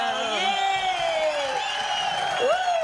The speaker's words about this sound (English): All right, it's coming. Come on, applause. There we go.